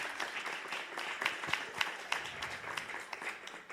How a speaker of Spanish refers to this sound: Un aplauso más fuerte para el Señor Jesús, la esperanza de la Navidad.